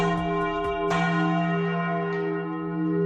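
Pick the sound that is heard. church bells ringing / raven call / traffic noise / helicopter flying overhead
church bells ringing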